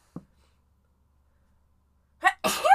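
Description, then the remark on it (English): After a long stretch of near silence, a person says something briefly, then lets out one loud sneeze with a sharp, breathy burst at the very end. “Oh, I gotta sneeze.”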